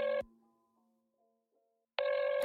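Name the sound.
phone call ringing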